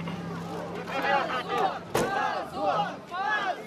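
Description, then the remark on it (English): A crowd of voices shouts in rising, overlapping chants of "shame" as police move in to detain a woman who unfurled a banner at a silent picket, loud and continuous, with a sharp thud cutting through midway. “The crowd shout shame as the police move in.”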